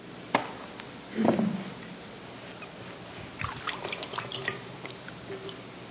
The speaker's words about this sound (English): I will sprinkle clean water on you, and you will be cleansed of all your pollution.